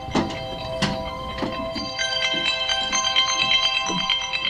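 A phone rings with an incoming robocall during a news conference about a bill to block robocalls, a bright, repeating electronic ringtone that pulses steadily at moderate volume, with a few soft knocks and thuds early on and no voices.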